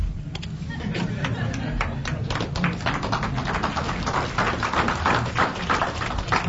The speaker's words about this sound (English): Don't applaud me.